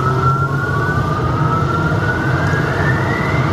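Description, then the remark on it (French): An aircraft's engine 1 is started as intake pressure rises: the jet engine spools up, its high whine climbing slowly in pitch over a steady, loud roar and low rumble, continuous, with no voices. “Maintenant, je vais mettre le moteur 1 en route. Moteur 1, voilà. La pression d'admission va monter.”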